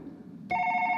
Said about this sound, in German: Nein, das Handy klingelt. Mein Handy? Aber das ist ja unsere Nummer. Hä, es zeigt unsere Nummer an.